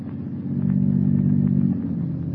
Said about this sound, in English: The unearthly silence is broken only by the purr of a motor car. Listen.